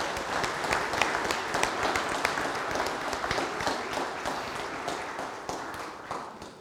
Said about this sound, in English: All right, now let's give a big round of applause for our tide pool of talent, the kids, for leading us this morning. Let's give them a big, nice round of applause.